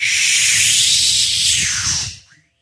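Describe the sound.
A voice imitates a jet taking off: a steady, loud breathy hiss held for about two seconds over a low rumble, then trailing off quickly into silence.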